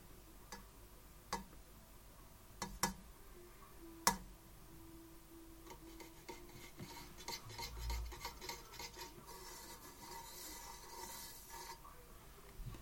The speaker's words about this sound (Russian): Можно как бы подумать, что это типа какая-то кастрюля. Но нет. Я стучу по лампе.